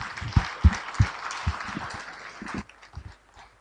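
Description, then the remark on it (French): FNDT supporters at a meeting applaud a speaker in a dense wash of clapping, with a few heavier, thumping claps standing out, before the applause thins and fades away near the end. “Et je demande à tous les sympathisants FNDT d'applaudir monsieur Collin.”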